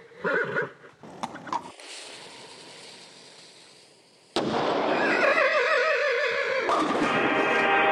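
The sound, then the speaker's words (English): A horse whinnies in short bursts, then after a quiet stretch a loud cannon blast booms, followed by a long, shaky whinny ringing over the roaring aftermath, as the horse, Ernest the Equestrian Cannonball, aims its cannon, lights its fuse and climbs inside during a cannonball bowling contest. “The horse aims its cannon, lights its fuse, and climbs inside.”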